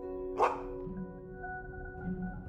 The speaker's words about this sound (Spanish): Pronto, en la tierra lejana, comienzas a escuchar unos ladridos.